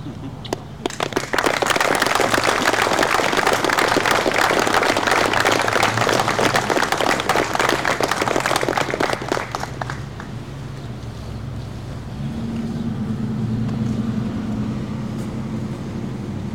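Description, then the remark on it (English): A crowd at a promotion pinning ceremony breaks into loud, dense applause that holds steady for about nine seconds, then fades away, leaving a low murmur and hum. “So as they're being seated, if we can give one more round of applause for all of our promotions.”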